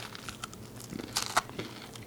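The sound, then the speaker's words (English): Crunching as someone bites and chews warm cinnamon bun crunches, a crisp baked snack: a series of crackly, crinkly bursts with a couple of sharper loud crunches, no speech. “Can't talk eating.”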